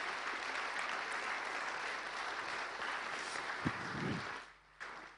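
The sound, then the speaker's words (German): A crowd at a Christmas concert claps steadily in a dense, even wash of applause for those who decorated and worked in the kitchen; it holds for several seconds, then thins and fades out near the end. “Ja, und es ist sehr schön dekoriert und ich möchte auch allen denen danken, die dekoriert haben, denen, die in der Küche gearbeitet haben, alles vorbereitet haben und wir wollen auch denen einen kräftigen Applaus geben.”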